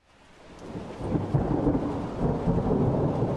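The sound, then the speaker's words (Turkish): Heavy rain pours steadily in Antalya during a sudden evening storm with lightning and hail, while low thunder rumbles and swells, building from quiet to a loud, continuous roar that fills the scene without any voices. “Gök gürültüsü ve şimşekler Antalya'da akşam saatlerinde aniden bastırdı sağanak yağış ve dolu.”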